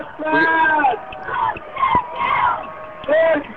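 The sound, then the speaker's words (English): A crowd screams and yells continuously, many overlapping high-pitched voices shouting at once, loud, with sharp whoops rising above the din. “Maybe we can enjoy some of the screaming here a little bit.”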